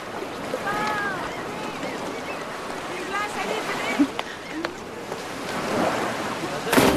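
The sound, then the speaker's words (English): Ocean waves wash in a steady, broad hiss that swells toward the end, with a few brief high tonal calls and faint clicks over the surf. “He walks to the ocean.”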